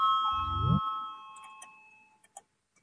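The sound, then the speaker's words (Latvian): A parliamentary voting bell rings to call a vote on a budget proposal, with a steady, clear electronic tone that gradually fades away, joined briefly by a short low rising hum early on and a few faint clicks toward the end. “Lūdzu, zvanu, balsosim par 28. Finanšu ministra Reira priekšlikumu.”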